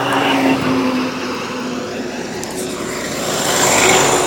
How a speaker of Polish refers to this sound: O, ciężarówki.